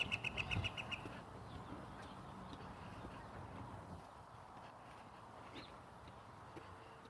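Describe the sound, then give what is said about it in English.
A flock of geese flies overhead in a line about 100 feet away, with a quick burst of rhythmic wingbeats and a few faint, clipped calls in the first second, then a steady low outdoor rumble. “Right over my head. Geese. About 100 feet out, but they were all in line, so they weren't talking much.”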